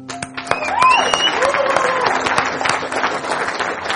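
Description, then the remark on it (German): An audience applauds steadily, dense overlapping claps filling the whole stretch, with some rising whistles and scattered voices mixed into the clapping. “Das ist euer Applaus.”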